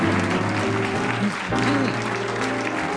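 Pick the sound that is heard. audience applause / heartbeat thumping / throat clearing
audience applause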